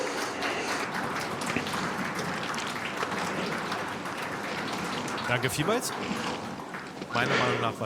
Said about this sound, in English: So please, have a warm applause.